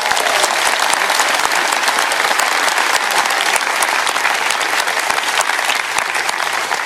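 A crowd claps steadily for about seven seconds, a dense, loud wash of many hands with no break or swell, and no voices over it.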